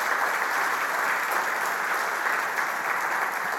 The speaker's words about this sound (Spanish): La razón por cual muchos aplauden es porque Cristo hizo eso en sus vidas. Esa es la razón por cual aplaudimos.